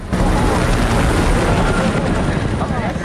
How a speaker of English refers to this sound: The men look up as a twin-rotor helicopter swerves over their heads to dodge two missiles fired from the ground.